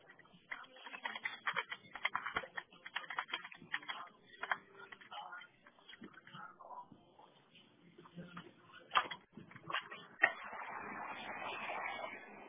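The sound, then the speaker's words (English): Rapid, irregular clicking of keys on a keyboard, moderately loud, in bursts with brief pauses, ending in a steadier stretch of soft noise. “They're typing.”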